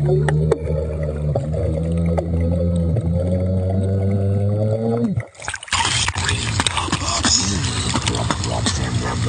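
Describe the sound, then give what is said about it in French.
Muffled, wobbling bass tones made by a man beatboxing underwater in the sea at a beach in Thailand, humming and pulsing, then a sudden burst of loud bubbling and churning water with warbling vocal sounds beneath it. “Oui, je t'ai pas dit, c'est du beatbox sous-marin. Le mec, il est dans l'eau, sur une plage de Thaïlande, peinard, et il fait du beatbox sous l'eau.”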